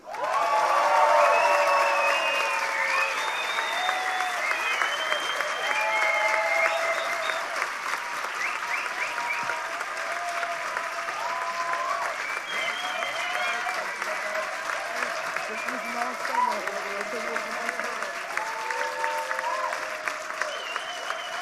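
Sustained audience applause for the action "Kindermästen gegen KitKat", a dense, steady wash of clapping that stays loud for about twenty seconds, with scattered cheers and voices rising within the crowd.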